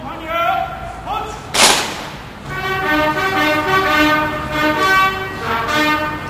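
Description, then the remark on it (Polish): A military trumpet call plays outdoors at a military farewell ceremony for President Kwaśniewski in front of the Presidential Palace, in long, sustained brassy notes that shift in pitch, interrupted early by a single sharp crack, then continues steadily at moderate loudness. “A kiedy trąbka grać przestała, prezydent wszystkich żołnierzy zaprosił na ciąg dalszy pożegnania już wewnątrz pałacu.”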